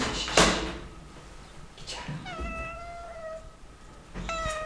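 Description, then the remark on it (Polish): Cats queuing to go out meow in drawn-out, mid-pitched cries, one long wavering meow followed by another rising call at the end, after a sharp clattering knock near the start. No one speaks. “Koteły, kolejka do wyjścia.”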